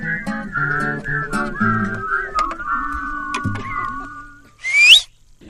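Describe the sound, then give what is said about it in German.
Sustained instrumental music with steady droning tones plays at a sing-along on the dunes, then fades as a single loud, sharp whistle from the parents in the audience rises quickly in pitch near the end. “Sie wünschen sich immer neue Lieder und singen und klatschen und pfeifen.”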